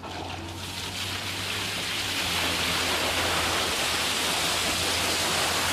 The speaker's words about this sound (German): Jean schüttet über 10.000 Liter Wasser in die Schaufel.